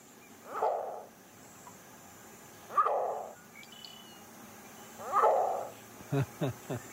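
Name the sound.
green heron call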